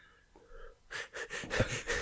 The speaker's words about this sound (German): Hör auf, so komisch zu atmen.